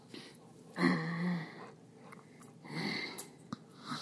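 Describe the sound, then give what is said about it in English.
A dog breathes heavily over the people it is with, giving a loud wheezy snort followed by several rough, puffing breaths and a quick sharp sniff near the end; no one speaks. “We have somebody breathing over the top of us.”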